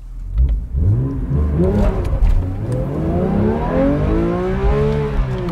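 A sports car engine revs hard and climbs through its gears, the pitch rising in long sweeping pulls, loud and close throughout with no pauses.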